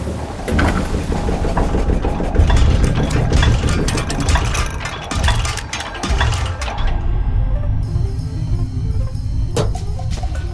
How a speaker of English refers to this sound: Fuchsia and green powders are poured into pill-punching machines.